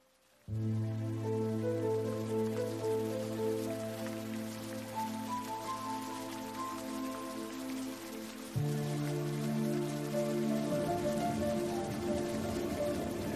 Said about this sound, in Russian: Наступила в Африке грустная пора. Ливень так и хлещет, льет, как из ведра. Льет без остановки, льет без передышки.